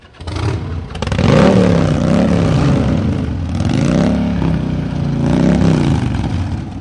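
A motorcycle engine revs loudly, its pitch climbing and dropping in several surges over a continuous, rumbling roar with no one talking.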